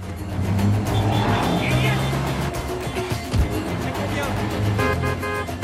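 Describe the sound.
A Jeep engine roars loudly and steadily as Bourne reverses sharply and accelerates away down a street, scattering pedestrians, with a brief horn toot and tire noise, amid busy background clamor and some indistinct voices.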